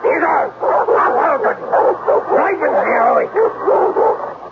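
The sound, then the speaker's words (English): A dog snarls and barks in agitated bursts that run almost without pause, loud, with whiny, yipping edges between the barks. “Mr. Klumper seemed forever to be out of doors, roaming the property with his snarling dog”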